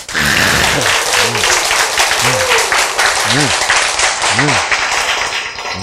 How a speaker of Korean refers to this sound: 박수!